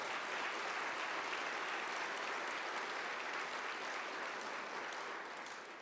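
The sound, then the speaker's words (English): A crowd breaks into sustained, loud applause for a church setting aside Sunday school rooms for children, a dense steady wash of many hands clapping that holds for several seconds before easing off slightly at the end. “when a church loves children enough to set aside four Sunday school rooms or more to say we're dedicating this space that children might have a deeper relationship with Jesus Christ, that deserves our applause and our thanksgiving.”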